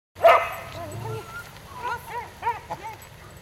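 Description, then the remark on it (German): A dog barks during a walk with its owner, opening with one sharp, loud bark followed by a string of shorter, higher yelping barks spaced unevenly over a few seconds. “Los geht es beim Gassigehen mit einer besonders aufmerksamen Hundehalterin.”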